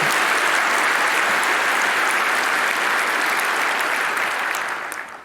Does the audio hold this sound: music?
no